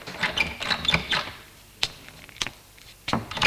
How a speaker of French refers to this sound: Il monte au troisième étage. Ouvre la porte de l'appartement en évitant de trop faire de bruit.